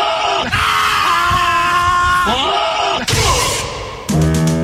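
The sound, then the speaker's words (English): A goat lets out loud, strained, human-sounding yells, one long drawn-out cry followed by a shorter second one, piercing, with no talking around them. “This 3 seconds is brought to you by a goat that yells like a person.”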